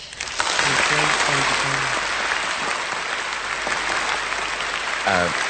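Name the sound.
audience applause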